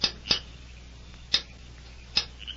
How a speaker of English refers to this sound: Later that night, horsemen dismounted at the rear of the town jail and crept stealthily to a barred window. He looked about him carefully. Then, satisfied that his movements were unseen, he rapped a faint signal on the bars.